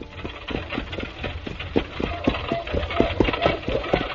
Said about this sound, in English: It was after dark as I started my return trip to the castle. I gave the horse a free rein and hoped for the best.